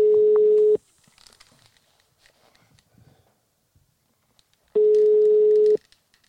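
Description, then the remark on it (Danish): Telephone ringback tone on an outgoing call: two steady, fairly loud tones about a second long, separated by a roughly four-second pause with faint rustling in between. “Den ringer vist nu.”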